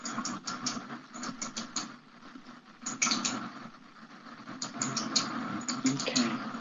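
A pen clicking repeatedly in quick, irregular bursts of small, sharp clicks, quiet, over a faint murmur of low background noise.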